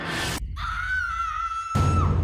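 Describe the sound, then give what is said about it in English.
A girl lets out one high-pitched, distressed scream from a forest, held for about a second before trailing off, set between bursts of rough background noise. “The scream came from the forest, and it was definitely real.”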